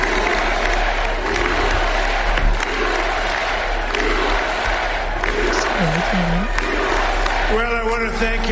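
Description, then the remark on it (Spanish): A large rally crowd applauds and cheers President Trump in a loud, continuous roar that holds steady throughout, with brief shouted voices rising above the din near the end. “Sonido de la CNN, que también están esperando como nosotros a que empiece a hablar, pero insisto, se está regodeando en este momento, se está sintiendo aplaudido.”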